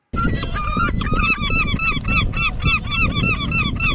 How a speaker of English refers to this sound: The dreaded seagull, Andrea. Oh my gosh, they are a torture. They're relentless, yes.